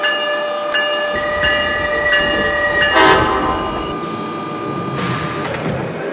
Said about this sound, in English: from Trenton on track number 4, train number 3844, the Northeast Corridor line to New York Penn Station.